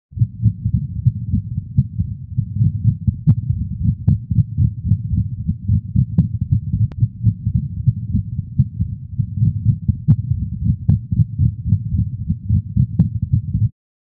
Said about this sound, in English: This arrhythmia is heard in an Irish wolfhound with dilated cardiomyopathy.